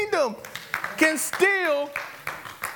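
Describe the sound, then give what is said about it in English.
A crowd of believers claps their hands in scattered, uneven bursts while excited voices shout and whoop over the top, the cheering rising and falling in pitch. “Believers, clap your hands.”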